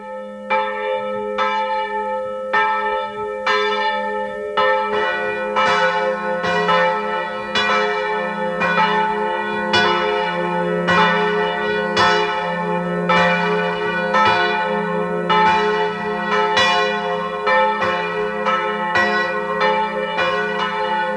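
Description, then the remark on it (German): The bells of the Protestant parish church of Unterschützen in Burgenland peal steadily at 12 noon, several bells overlapping in a dense, continuous ringing with rich sustained overtones. The sound is fairly loud and full, with no voices present. “Sie hören die Glocken der evangelischen Pfarrkirche von Unterschützen im Burgenland.”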